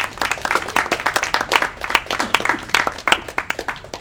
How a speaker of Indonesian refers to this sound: Beri tepuk tangan dulu